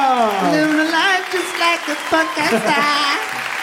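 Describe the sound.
A crowd applauds steadily, a dense wash of clapping mixed with loud cheering and several voices shouting together in rising, sung-out calls throughout.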